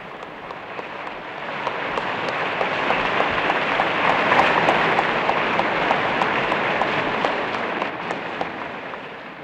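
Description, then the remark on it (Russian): A large audience in a hall rises and applauds long and hard as cosmonaut Yuri Gagarin and party and Soviet officials appear on the presidium, a dense, crackling roar of clapping that stays loud and steady throughout, with no voices above it. “Зал встает и долго, бурно аплодирует.”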